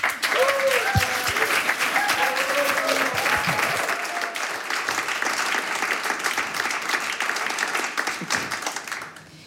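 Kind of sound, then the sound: crowd, studio audience applause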